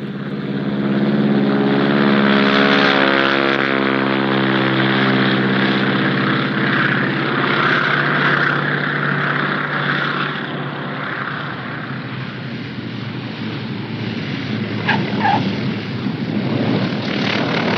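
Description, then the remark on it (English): Propeller aircraft engines idle loudly before takeoff, a steady droning hum with layered low tones under a broad rushing roar, joined briefly near the end by a faint higher whine. “Looks like they're nearly ready for takeoff.”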